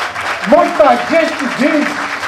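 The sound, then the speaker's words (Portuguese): An audience claps steadily in a dense, continuous wash of applause for their community leaders, with a voice calling out or speaking over the clapping throughout. “Por isso que as lideranças de vocês merecem aplausos, porque são pessoas que se distinguem.”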